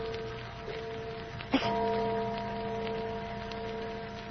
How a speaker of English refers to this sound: Church bell. Oh, there aren't any churches around here. Oh, sure there is. That little old church down at the other end of the valley.